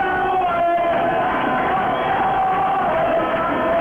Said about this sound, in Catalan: Ara sí, els primers crits de campions, campions, quan estem sobre el minut 90 i 25 segons de partit.